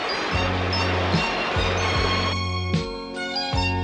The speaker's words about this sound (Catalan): L'aigua omple progressivament la llera del riu que arriba fins al poblet d'en Nam.